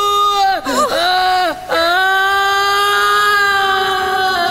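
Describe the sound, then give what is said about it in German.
A woman screams loudly, her voice wavering and dipping in pitch through two brief breaks before settling into one long, sustained, high-pitched shriek that holds steady to the end. “Ja, aber sie hat total geil geschrien gerade.”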